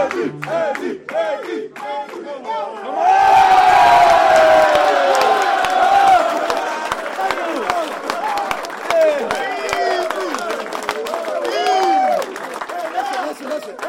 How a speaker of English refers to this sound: And listen to the best crowd in the National Football League.